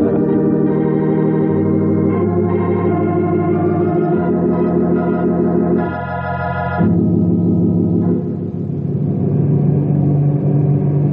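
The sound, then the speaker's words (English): A steady, droning amphibious propeller-plane engine in flight, flying north over the Blue River into lake country, hums continuously with layered harmonic tones, its pitch and intensity shifting slightly over time as it holds a loud, sustained roar with no voices. “It's a good thing this is an amphibious plane.”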